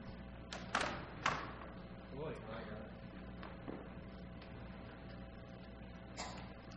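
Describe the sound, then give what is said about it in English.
Several sharp knocks and thuds as helpers move chairs and set them down, with a scraping shuffle between them, over a low murmur of people. “So weavers, can I have some helpers with some chairs?”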